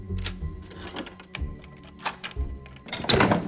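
A balding man unlocks a front door: a run of sharp metallic clicks and rattles at an uneven pace, ending in a louder, fuller clunk as the bolt gives way.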